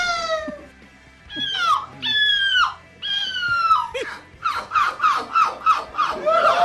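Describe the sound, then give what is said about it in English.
A person imitates a seagull in a seagull-imitation contest, loudly: three long, wavering squealing cries, then a quick run of short, yelping calls rising in pitch at the end. “I enjoyed the sound of a seagull, so I want to create it for myself.”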